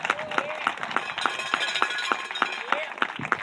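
Audience applause comes through as a steady, evenly spaced run of sharp claps, roughly three per second, moderately loud over a continuous murmur of background noise, with no one speaking.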